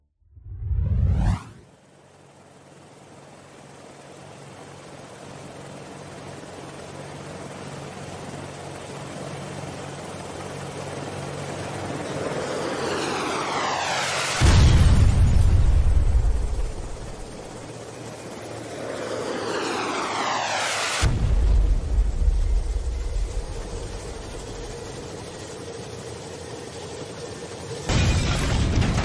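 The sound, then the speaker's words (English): A rescue helicopter's engine roars and whines as it is brought down, broken by heavy, booming crashes and explosions, three deep blasts in all, with the last one cutting in at the very end. “Captain, the chopper's down. I repeat, the chopper is down.”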